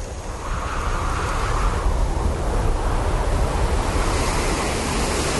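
Rough, churning lake waves wash continuously under a strong, gusting wind after dark, forming a dense, steady roar with gentle surges. Fairly loud, with no voices.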